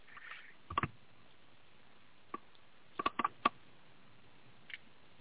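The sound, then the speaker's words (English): Sharp, typewriter-like clicks in uneven bursts: a quick pair, a lone tap, then a rapid cluster of about five, and one last faint click. The clicks are crisp and sound alone with no talking. “Sounds like a typewriter.”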